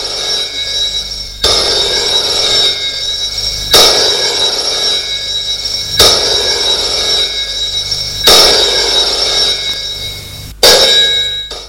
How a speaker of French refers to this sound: Il habite toujours son hôtel. Un soir, Le téléphone sonne dans sa chambre.